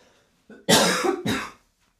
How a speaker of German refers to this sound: Ich muss husten.